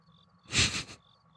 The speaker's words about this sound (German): Da bitte jetzt noch das Zirpen einfügen. Ja, da muss ich das Zirpen einfügen.